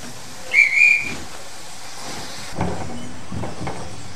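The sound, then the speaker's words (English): A steam train whistle at Bletchley Station gives two short, shrill, closely spaced blasts for the Cambridge train at platform 2, followed by a steady hiss of steam and faint station bustle in the background. “Bletchley Station. Cambridge train, platform 2.”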